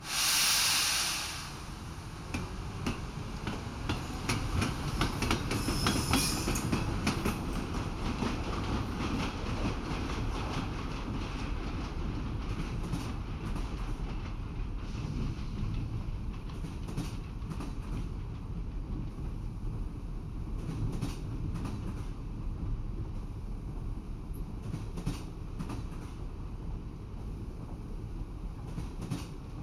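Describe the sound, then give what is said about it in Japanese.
The sleeper train Akatsuki starts to move, pulling away with a sharp hiss of released air, then settles into a steady rumble of rolling wheels and carriage noise that continues without anyone speaking. “列車が動き出しますのでお気をつけください。”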